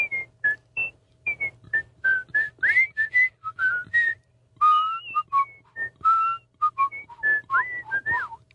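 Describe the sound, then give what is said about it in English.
A person whistles the Andy Griffith tune, a lively, bouncing melody of many short, bright notes with quick slides between pitches, clear with no talking over it. “Yeah, I love to whistle”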